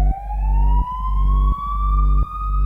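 A loud ambulance siren sweeps slowly upward in one long wail over a deep engine rumble, with heavy thumps recurring every second or so, as the ambulance carries a very sick patient about 1 mile across town to another hospital.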